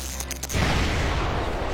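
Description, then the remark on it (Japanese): A short crackling buildup gives way to a sudden, sustained roaring blast as a receiver on a machine still under development explodes, loud, with a rumbling low end and hissing debris-like noise. “爆発しちゃいました。”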